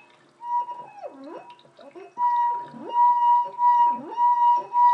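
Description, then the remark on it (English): A wet hand rubs around the rim of a glass that is not a wine glass, producing a sustained, steady ringing tone broken by wobbling, squealing swoops in several fairly loud bursts, faintly whale-like. “It's not a wine glass, so it doesn't quite do it justice, but it does try. Sounds a bit like a singing whale at the moment.”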